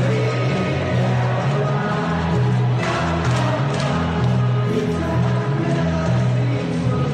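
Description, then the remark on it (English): A stadium crowd of about 37,000 Swans fans sings a song together in unison, a loud, sustained wall of massed voices with a steady melodic rhythm and no break throughout. “And then have 37,000 people sing it to you.”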